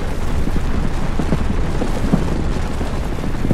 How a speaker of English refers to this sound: We need to move before the roof comes down!